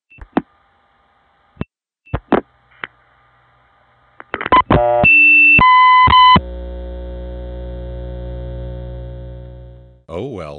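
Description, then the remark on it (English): A few sharp clicks and a burst of electronic telephone tones, heard when dialing a number that rings a test line in a 7-9 crossbar 5 exchange, give way to a loud, steady 1 milliwatt, 1 kilohertz test tone held for about four seconds before it cuts off and a brief voice sounds. “Yeah, those 1 milliwatt, 1 kilohertz tones were very hard to whistle off.”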